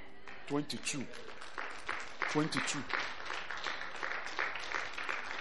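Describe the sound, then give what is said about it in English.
An audience claps steadily in a dense, crackling patter that carries through the whole stretch, with brief bursts of a voice speaking over the applause. “You don't need to clap for anything.”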